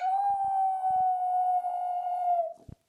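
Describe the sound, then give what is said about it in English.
A dog named Linus lets out one long, steady howl that holds its pitch for over two seconds before trailing off, loud, with a few soft low thumps underneath. “I ask my dog Linus, do you like the show, and do you like that the show is now at the end?”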